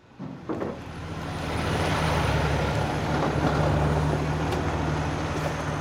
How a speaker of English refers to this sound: I'm at a construction site for Metro, just east of downtown Los Angeles. We're next to a freeway. There's an enormous pile of dirt, and on this work site there are 116 people, and 9 of them are women.